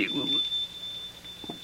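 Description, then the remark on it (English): The shop door bell of Miss Hepzibah's shop gives a bright, high tinkle at the start, then one thin ringing tone lingers steadily until the end, fairly faint against low background noise. “That is the tinkle of the shop bell.”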